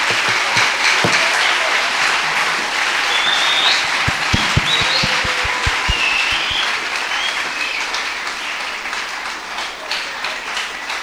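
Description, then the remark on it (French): A crowd applauds for Paul steadily, a dense wash of many hands clapping with no pause, a few sharper individual claps standing out midway before the sound trails slightly toward the end. “Will you not clap for Paul?”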